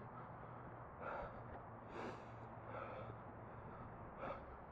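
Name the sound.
breathing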